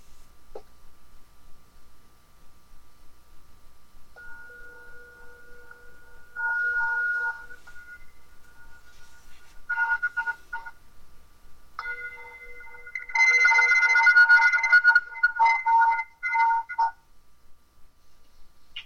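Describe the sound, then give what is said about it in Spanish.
A meditation bell rings at the end of a guided meditation practice in a series of bright, sustained tones that swell and shimmer, with several louder strikes near the end, then fading into quiet. No one speaks. “Tal vez descansar la atención en unas respiraciones más hasta escuchar el sonido de la campana.”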